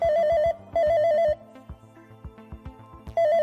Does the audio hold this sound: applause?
no